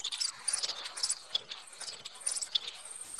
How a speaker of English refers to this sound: There we go. That's crickets. You can't hear it? I hear something. You're like, is that birds? Yeah, it does sound like.